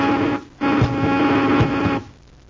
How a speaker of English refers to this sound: Rohrman, buzz them with the ray gun, quickly!